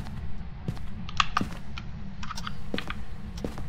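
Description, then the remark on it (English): Rapid, irregular keyboard clicks and taps with occasional sharper mouse clicks, steady but moderate in volume over a low, constant hum, with no voices. “I wonder if all the people are going to hear the clicking of the keyboard, the mouse, the controller, whatever the hell I'm using.”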